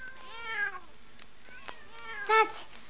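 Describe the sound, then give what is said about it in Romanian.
Several cats meow in turn, a drawn-out mew near the start, a softer one midway and a louder, sharper meow near the end, with no talking. “Stați, pisicuțelor, că vă dau la toate de mâncare, îndată. Uf, că multe mai sunteți.”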